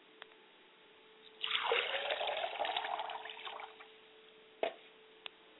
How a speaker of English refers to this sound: I pour a glass of water for my mother's spirit and I say, Ashe. I pour a glass of water for my father's spirit and I say, Ashe.